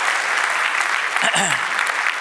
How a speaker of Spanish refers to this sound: Si tomó algo de Dios, apláudale a él, que él se lo merece. Un aplauso.